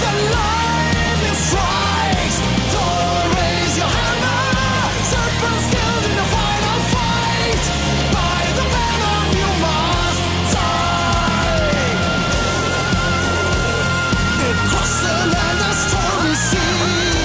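A loud heavy metal song with pounding drums, dense distorted guitars and shouted, anthemic vocals, playing continuously at full volume.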